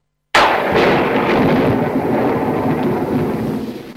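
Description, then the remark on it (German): A classic stock thunder sound effect often used in films: a loud, sudden thunderclap cracks open after a brief silence, then rolls and rumbles steadily for several seconds with a deep, broad roar that slowly fades toward the end. “Da gibt es den typischen Donner, den habe ich sogar auch besorgt. Das ist der Castle Thunder”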